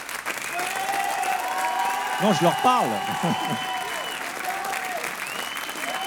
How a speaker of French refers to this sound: À mon avis, si les applaudissements restent à ce niveau, ils ne reviendront pas.